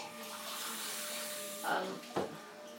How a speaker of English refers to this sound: You might be able to hear Obi's hoovering upstairs.